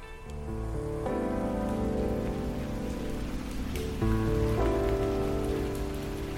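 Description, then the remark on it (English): Steady rain patters continuously on a hard surface, close and fairly loud, with sustained low musical tones droning underneath and no voices. “On a night that began in rain and ended in snow”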